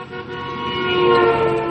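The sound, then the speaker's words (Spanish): A large truck's horn blares in one long, loud, steady blast, swelling slightly as the truck rushes past on a road, with no voices. “Aquel enorme camión salió de la izquierda.”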